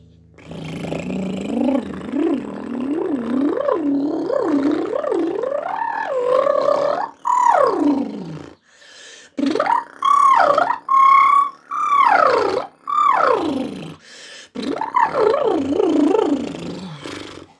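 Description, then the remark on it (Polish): A voice does a vocal relaxation exercise: a continuous bubbling, gurgling sound with rapidly wavering pitch, then a series of loud rising and falling "elevator" vocal glides separated by short pauses. “Rozluźnijmy się na bulgotaniu.”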